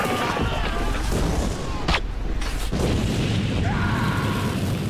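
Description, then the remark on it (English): Two sharp cannon blasts boom out about a second apart over a dense, rumbling din, followed by a sustained whistling tone near the end, as a cannon is fired at a giant wolf. “Lady Eboshi grabs one of those cannons and puts a hole in that giant wolf”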